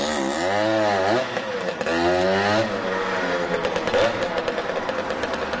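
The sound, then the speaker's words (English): A Vespa motor scooter engine buzzes loudly on a New York street, its high whiny pitch revving up and down twice before settling into a rougher, sputtering drone with street noise. “And whether you love it or find it unbelievably annoying, that is the distinct waspy buzz of a Vespa motor scooter.”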